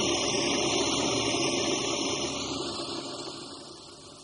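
A coffee grinder runs with a steady, dense mechanical whir and gritty buzz, holding constant for a few seconds before gradually tapering off in loudness. No voices are heard.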